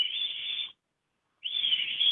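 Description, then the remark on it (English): A person whistles two sustained, fairly loud notes imitating a bird call, separated by a brief pause, with the second note wavering and rising slightly at its end. “I can make the sound if you'd like.”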